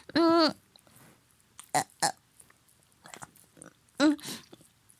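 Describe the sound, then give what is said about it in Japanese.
Wet chewing and eating noises of someone eating a beef bowl (gyudon) come in short, squelchy bursts, bracketed by low throaty grunts at the start and near the end, with quiet pauses between. “なんか、こんなに、牛丼を中に入れるのは、苦戦してるのは初めてかも、”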